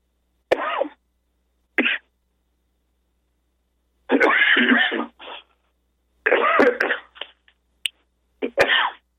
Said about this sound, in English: Well, if I can stop coughing, I'll read this.